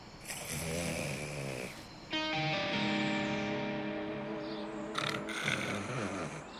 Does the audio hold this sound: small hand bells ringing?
no